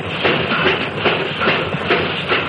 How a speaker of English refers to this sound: Hear that? That's about the way the first railroad locomotive must have sounded when it made its first run back around 1830.